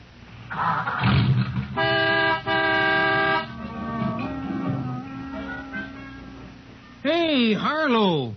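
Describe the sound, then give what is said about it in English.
A car horn, powered by the car's Autolite electrical system, honks loudly in two sustained blasts in quick succession, after a short rumbling burst and before quieter background sounds and a warbling, sweeping tone. “I'm showing you how the Autolite electrical system in your Autolite-equipped car provides the power for starting the engine, sounding the horn, and playing the radio.”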